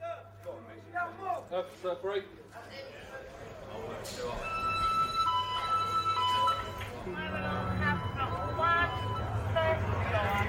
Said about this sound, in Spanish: Poco después de que los presos salieron al patio de ejercicios, la alarma de incendio suena en otro bloque.